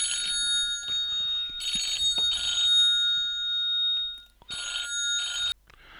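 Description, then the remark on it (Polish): A telephone rings in repeated bursts of bright, trilling electronic tones with short pauses between them, clear with no one talking over it. “No niestety miałem telefon, musiałem odebrać i trochę mnie to zbiło z pantałyku.”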